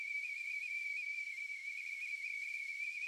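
A steady, shrill tea kettle whistle holds one high pitch without a break, with a breathy steam hiss underneath. It stays loud and constant throughout, with no voices.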